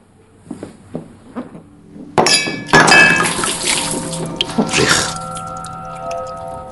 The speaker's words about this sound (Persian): بیا جمعش کن. چی؟ آبی که رو زمین ریخته رو جمعش کن. میگم جمعش کن.